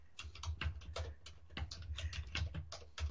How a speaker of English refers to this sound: I mean, I'm typing. This is the music, folks. My little I'm typing that. I guess that was the music.